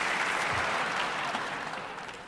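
A crowd applauds steadily, a dense wash of many hands clapping at an even, fairly loud level that eases off slightly toward the end, with no voices standing out.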